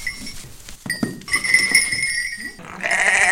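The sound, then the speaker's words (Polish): A ewe bleats loudly in a wavering, drawn-out cry, followed by a second shorter bleat, with faint clinking and rustling of a goat pen underneath. “7 kóz i owieczka i baranek. To jest owieczka. Się przywitała.”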